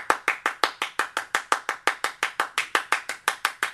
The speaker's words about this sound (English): which was they used other percussional instruments, right? They used obviously the clap, you know?